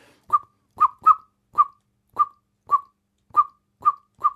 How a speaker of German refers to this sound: Wenn die irgendwo jetzt eine Katze sieht, die noch friedlich da sitzt in der Sonne und sich putzt, dann sagt die Amsel aber trotzdem: Passt auf, da sitzt ein Bodenfeind. Dann kommt sogar ein Bodenfeind-Alarmruf. Bei der Amsel klingt das dann so.